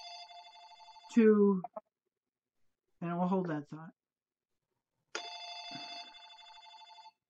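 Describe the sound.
A telephone rings in two steady, tonal bursts, one at the start and another near the end, with a man speaking briefly in the pause between rings.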